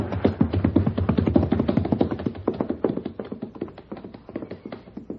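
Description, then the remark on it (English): A thundering rush of galloping hooves, many horses pounding at once in a dense, rapid drumming that stays loud for several seconds and then gradually thins and fades away. “The horses are stampeding.”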